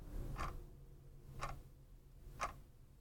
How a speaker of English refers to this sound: You normally don't hear the ticking clock, but the seconds are always there, ticking away.